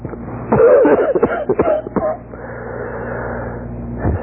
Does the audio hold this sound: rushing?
no